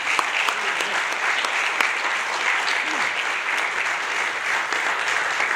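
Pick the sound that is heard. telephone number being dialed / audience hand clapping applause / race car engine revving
audience hand clapping applause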